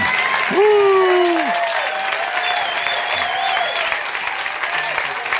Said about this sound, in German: Und wenn ihr vielleicht alle mal aufstehen könntet und sie mit einem herzlichen Applaus willkommen heißen könntet, das wäre eine riesige Wertschätzung.